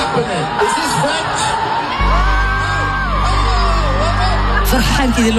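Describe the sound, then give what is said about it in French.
A huge concert crowd loudly sings a wordless "oh, oh, oh" chant, many voices rising and falling together, while a deep, sustained musical drone enters underneath after a couple of seconds. “Et précisément, c'est le moment où toute la foule elle chante oh, oh, oh.”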